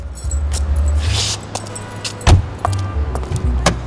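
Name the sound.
car door opening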